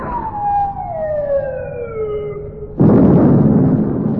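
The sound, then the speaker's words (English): A falling whistle of an incoming shell descends for a few seconds, then a loud explosion bursts in and roars on as a sustained rumble. The shells are fired by the rest of a naval fleet. No one speaks. “They're coming from the rest of the fleet. They're all banging off at us.”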